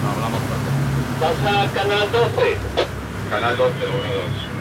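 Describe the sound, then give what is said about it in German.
A boat pushes through water in an area with orcas, moving to the other side of another boat, with a steady wind-blown rumble throughout, while voices talk in brief bursts over the engine and splashing noise. “Wir fahren auf die andere Seite des Bootes.”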